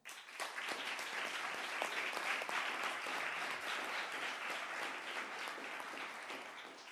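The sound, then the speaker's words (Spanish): An audience at a children's parliament plenary session, with pupils of Colegio Rural Agrupado Río Tajo as deputies, applauds in a steady, dense wash of clapping that holds at an even level for about seven seconds, with sharp individual claps standing out and no voices. “Y para todos pido un aplauso.”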